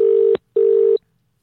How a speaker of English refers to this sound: Answer the phone, goddamn lawyer.